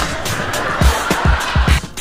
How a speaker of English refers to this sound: We're under the freeway, man. Those are cars whipping by.